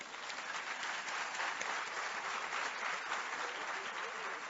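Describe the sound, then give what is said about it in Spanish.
A crowd applauds loudly and steadily, a dense wash of clapping that holds an even level from start to finish with no voices standing out. “Vamos a darle nueva vez un fuerte aplauso.”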